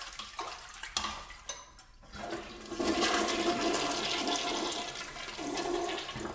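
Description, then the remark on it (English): A toilet being cleaned: a few short scrubbing swishes and knocks, then the toilet flushes with a loud, steady rush of water that keeps going for several seconds. No one speaks. “Here's the part that most people think is nasty, but I don't mind so much. Cleaning the toilets.”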